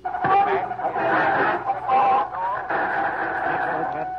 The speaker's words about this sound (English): That interference was caused by a government station coming on the air on the same wavelength. It's the method used to block out these broadcasts.